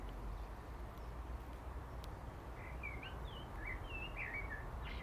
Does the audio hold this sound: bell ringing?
no